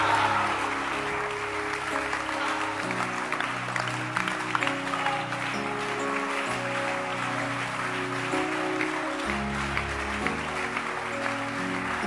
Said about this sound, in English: Time. Everybody keep clapping and say time.